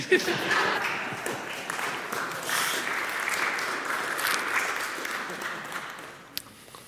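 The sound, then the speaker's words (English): A church crowd applauds a speaker at the end of their talk, a dense wash of many hands clapping at once that holds a fairly even level for several seconds before thinning out toward the end. “I like that they gave you a round of applause.”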